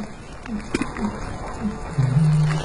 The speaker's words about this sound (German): Hörst du das? Eine Rohrdomme. Gehört zur Familie der Reiher, Eurasischer Graureiher.